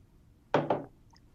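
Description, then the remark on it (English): A ceramic coffee mug is slammed down hard on a wooden tabletop, making two quick, loud thuds in rapid succession, followed by quiet. “As she slams the coffee mug down on the table.”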